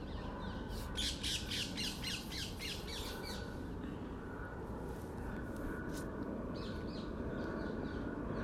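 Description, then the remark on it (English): A flock of parakeets squawks in rapid, harsh bursts, a dense run of shrill calls early on, then scattered squawks over a steady low rumble of background noise, at about 6:30 in the evening with the temperature still 30 degrees. “It's about 6:30 in the evening and it's still 30 degrees, and there's lots of parakeets flying around, but they suddenly have decided to go quiet. Oh no, they haven't.”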